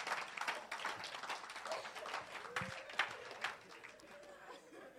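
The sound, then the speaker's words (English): An audience claps for the Lord Jesus in a dense, steady burst of many hands, the applause holding at a fairly even level for several seconds with faint chatter mixed underneath. “Clap for the Lord Jesus.”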